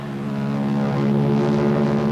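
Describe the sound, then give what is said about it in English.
A steady, droning roar of Royal Canadian Air Force planes flying overhead, a low, layered engine hum that holds at a constant, fairly loud level throughout with no voices. “Then the Royal Canadian Air Force will appear overhead towing a 10-ton maraschino cherry, which will be dropped into the whipped cream to the cheering of 25,000 extras.”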